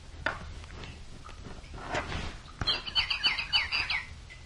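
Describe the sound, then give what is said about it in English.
A real bird sings a quick, bright run of clear chirping notes near the end, after a few scattered soft knocks and rustles. “Mm-hmm, the real bird is singing.”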